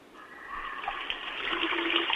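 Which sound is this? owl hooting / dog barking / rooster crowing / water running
water running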